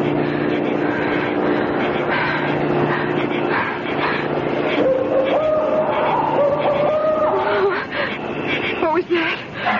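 car approaching

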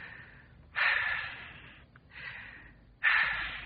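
two deep breaths

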